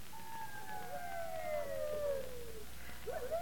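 wolves howling

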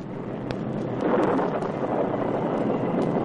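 storm wind

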